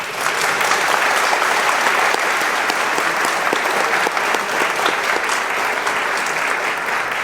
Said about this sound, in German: Danke an die Veranstaltungstechniker vom ZKM für eure Hilfe. Ihr könnt euch gerne mal kurz umdrehen, alle zu den Technikern, und denen auch klatschen.